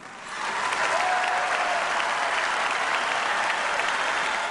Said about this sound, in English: And down on the floor where I was, the crowd just leapt up to its feet and starts yelling, "Yes, we can," for about 2 minutes. Of course, that's the Obama refrain. I mean, they were just so delighted to hear that.